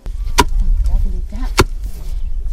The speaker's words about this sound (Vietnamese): trong khi các phụ nữ cùng với con gái của họ đang giã ngô để sửa soạn nấu ăn.